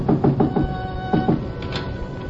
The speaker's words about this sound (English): Still in front of me when I knocked again at Shinyoke's back door.